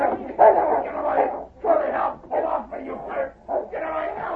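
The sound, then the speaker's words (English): A big dog barks and snarls aggressively in a rapid series of about six loud bursts as it pushes open a door and leaps at a man, with no speech in between. “Quickly, the big dog pushed open the door, and in a flash leaped at Spike, whose arm was raised to strike Kenny.”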